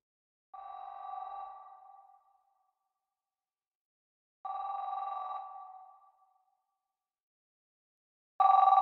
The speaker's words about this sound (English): I know when we got the call. 12:58 a.m. I heard the house phone ring, and then his cell phone in the bedroom rang, you know, and he got it.